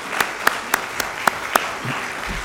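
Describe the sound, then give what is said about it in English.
A brief round of applause that sounds thin, about six sharp, evenly spaced claps in a steady rhythm, then it trails off into quiet room noise. “And I know a lot of people had a part in that, but I just want to give them a round of applause this morning for getting that done.”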